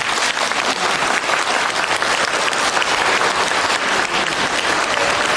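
An audience at a Buddhist teaching talk breaks into steady, sustained applause at the speaker's call, a dense wash of many hands clapping at an even loudness throughout, with no voices rising above it.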